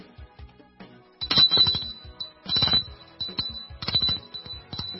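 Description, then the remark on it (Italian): A doorbell rings in several short, bright metallic bursts, about four rings in quick succession, fairly loud, with no talking. “Suona il campanello.”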